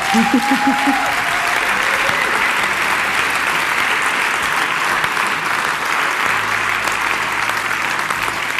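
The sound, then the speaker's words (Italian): Sustained audience applause at an evening celebration of Teatro dell'Elfo and Radio Popolare, a dense steady wash of clapping that holds at a fairly loud level throughout, with a brief tonal voice-like sound at the very start. “E allora vi chiedo un altro applauso a voi, a noi.”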